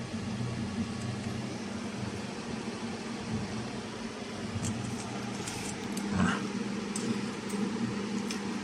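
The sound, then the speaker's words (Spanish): A steady mechanical whir of an audio amplifier's cooling fans, running after the audio equipment is switched on, continues with a low hum beneath, even in level, with a few faint clicks and brief noises partway through. “Se escucha el sonido de los ventiladores.”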